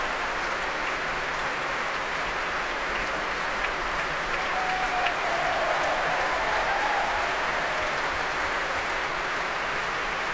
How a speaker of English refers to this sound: many soloists now receiving the applause of the crowd here.